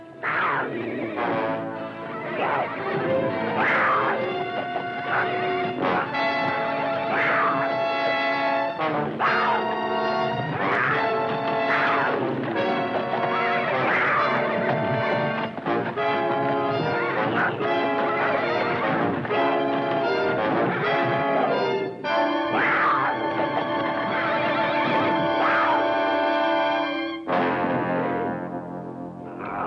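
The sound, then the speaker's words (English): A thoroughbred filly, Glory, shrieks and whinnies again and again in a loud struggle as she fights off a cougar that attacked at night while she defended a foal, with crashing and thumping impacts throughout and no talking. “Glory tried to defend the little one, and the cat attacked.”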